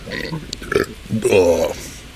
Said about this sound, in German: Oh Gott, Geräusche. Hört ihr eigentlich durch das Mikro auch die Geräusche, die so in meinem Bauch vom Innen kommen oder nur, was ich so von außen rein rülpse? Boah, Hilfe, das war nicht gut.